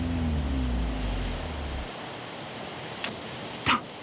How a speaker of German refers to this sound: Nur das Meer ist zu hören.